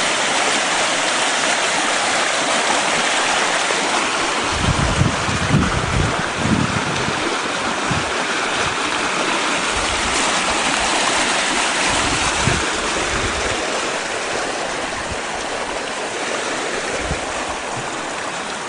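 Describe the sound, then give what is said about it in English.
Water rushes steadily through a small creek, a continuous babble with occasional deeper gurgles and splashes rising out of the flow. No one speaks. “It has cut a pathway over there on the other side. Going out through there.”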